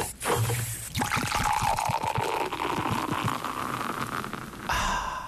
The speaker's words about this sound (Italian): L'unica cosa che possiamo fare, madame, perché so che ci stai ascoltando, è farti sentire il suono dell'apertura della lattina della Fanta, dell'aranciata, che è questa, prego.